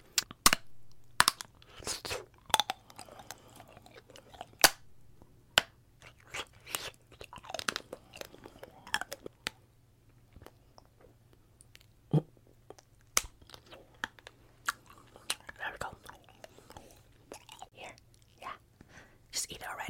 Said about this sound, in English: I'm just gonna go ahead and bite this piece, okay? So once you're done chewing on the wax like gum, you're supposed to spit it out, okay? Don't swallow the wax.